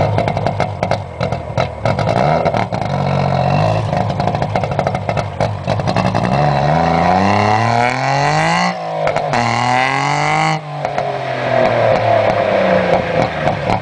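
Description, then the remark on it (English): A rally car engine roars loudly and steadily, its pitch climbing in repeated surges with brief drops between them, like an engine being driven hard through the gears. No one speaks. “the question was rally cars that should never have been and why”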